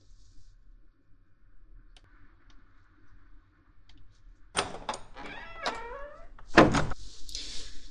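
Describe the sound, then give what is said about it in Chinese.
After a quiet stretch, a door creaks as it swings and then shuts with a solid thump, followed by a brief soft rush of air. No one speaks. “哎，慢点坐，我去关门。”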